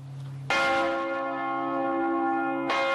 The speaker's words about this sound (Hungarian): Négy új harangot is kapott a felújított Mátyás templom.